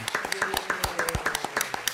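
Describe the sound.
A short burst of enthusiastic clapping from a few people, sharp irregular hand claps overlapping quickly, with voices chattering and cheering faintly underneath.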